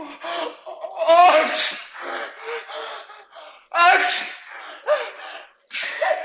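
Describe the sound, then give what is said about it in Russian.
A voice imitates the hero Ilya's fit of sneezes after his nose pokes into feathers: several loud, breathy bursts in a row, each preceded by a rising intake of breath, clear with brief pauses between. “Тут на Илью почехота нашла.”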